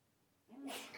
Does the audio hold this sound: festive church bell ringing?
no